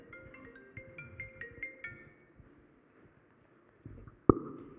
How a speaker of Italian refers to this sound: Ti suona il cellulare.